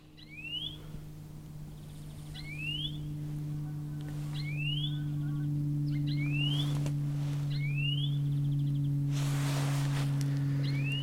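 Bird song of a bird seen against the light, recorded outdoors to identify the species: a series of about seven bright, rising whistled notes repeated at a steady pace, each brief and high-pitched, over a constant low humming drone. No one speaks.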